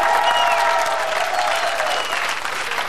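Sustained audience applause for Oleg Toktarov, introduced as absolute universe champion in no-rules fighting, fills the whole stretch, a dense, steady wash of many hands clapping, holding loud throughout with a faint tonal hum running underneath.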